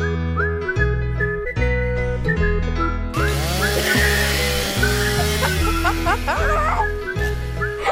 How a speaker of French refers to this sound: Alors, c'est une scie mécanique, évidemment. Oh, attention, une planeuse. Ah, l'attaqueuse.